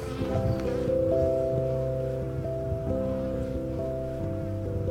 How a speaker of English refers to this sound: Look at this bee. She's like hauling around the edge of the hive. She's funny. She's like sick of the work today. She just wants some time to herself.